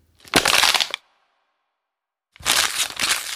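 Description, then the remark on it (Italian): Two bursts of loud plastic crackling and crunching, an empty plastic bottle and an empty plastic bag being crushed to make sounds in a music lesson, separated by about a second and a half of silence. No voices. “Oggi prendiamo una bottiglia di plastica vuota e un sacchetto, anche lui vuoto. Che suoni possono fare?”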